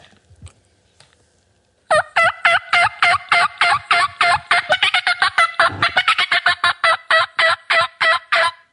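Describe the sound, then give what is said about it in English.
A turkey game call is blown in a fast, loud run of rapid, high-pitched yelping notes, roughly two dozen clucks and yelps in quick rhythm after a brief quiet start, with no talking. “My wife hates me running around the house blowing game calls.”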